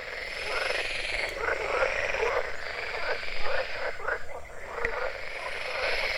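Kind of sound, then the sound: animal, many frogs croaking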